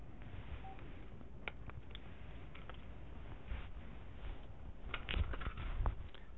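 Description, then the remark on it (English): Fumbling with a cell phone that had been left on: scattered plastic clicks, taps and rustling, building to a few sharper snaps near the end as the battery is pulled out so it stops making its tune. No one speaks. “I had a cell phone on, and I just, instead of going there and shutting it off, then it makes a little tune.”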